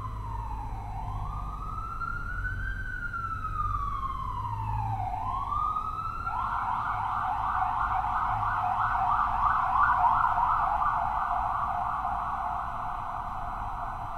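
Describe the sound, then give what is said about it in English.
An emergency vehicle siren wails in long rising and falling sweeps, then switches to a rapid yelp, fairly loud and steady over a low traffic rumble, with no one speaking. “Thinking that siren isn't you.”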